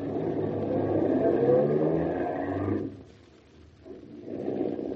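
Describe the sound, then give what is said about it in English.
A car engine roars and revs steadily for nearly three seconds, briefly fades, then rises again as the vehicle speeds along; no voices. “No, don't stop the car. Drive quickly.”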